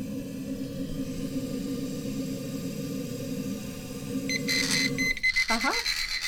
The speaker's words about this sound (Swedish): Aha. Och den här borde. Det blev ett väldigt liv. Ja, den både piper och skakar lite grann.